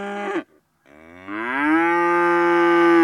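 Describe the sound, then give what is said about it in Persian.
A large cow that has just given birth to a calf moos loudly while running loose after villagers on a plain: a short low call, a brief pause, then a long, drawn-out moo that swells and holds steady to the end, with no talking. “گاوه بزرگی که تازه گوساله به دنیا آورده بود رم کرده بود و دنبال اهل آبادی میدوید.”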